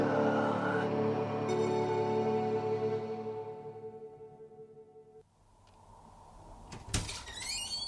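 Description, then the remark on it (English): A heavy fire door swings open with a long, drawn-out tonal whine, then bangs shut about seven seconds in with a sharp thud and a brief metallic latch rattle. No one speaks. “Fire door.”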